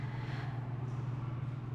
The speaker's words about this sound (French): Ah, plus de métro. Trop de trafic pour prendre l'autobus.